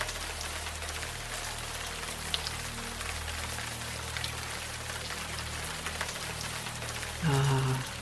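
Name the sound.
rain falling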